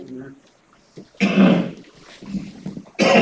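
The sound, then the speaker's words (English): A harsh cough bursts out, followed by a rough, throaty rasp and brief muffled vocal sounds, then a second cough starts abruptly at the end. “Excuse me if I cough a little much.”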